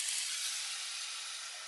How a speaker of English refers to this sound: Oh yeah, I hear it. I hear the sizzling.